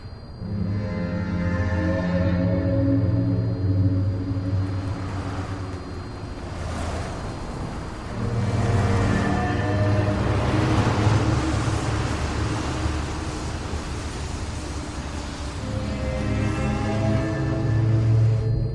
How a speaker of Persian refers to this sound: کامیون دوتا از ماشین از خونه دور میشن. شب شده تو جاده. ماشینا جلو میرن، کامیون پشت سرشون.